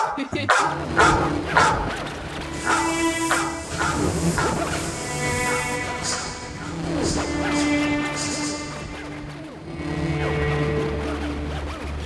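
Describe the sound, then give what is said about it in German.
A dog barks several times at moderate volume, the barks coming in short bursts over a busy background with indistinct voices and a steady hum. “Hat nicht so wirklich funktioniert mit dem Hund, oder? Der Hund war zu leise.”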